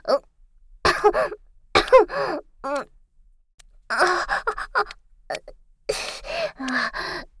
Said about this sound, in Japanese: ただちょっと、風邪気味で、咳が。また咳が。